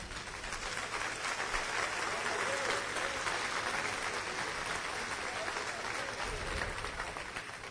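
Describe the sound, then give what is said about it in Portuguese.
Steady applause from an audience, a dense crackle of many hands clapping at an even level for several seconds with no voices rising above it. “Mas quero aplaudir e aplaudir.”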